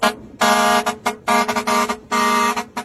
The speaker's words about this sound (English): Truck horns like this one can actually get young people dancing on the roadside. It can be good fun